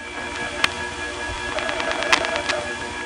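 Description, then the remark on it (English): Telephone step-switch selector noise picked up on a line: a sharp metallic click, then a quick run of ratcheting ticks with another loud snap, all over a steady hiss and hum. “There was a great microphonic selector noise pickup there.”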